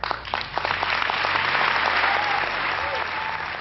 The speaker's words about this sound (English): When Malala finished, the room erupted in applause.